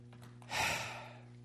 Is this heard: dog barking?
no